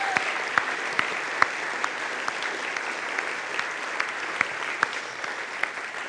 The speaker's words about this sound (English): so can we give a huge round of applause to our youth volunteers?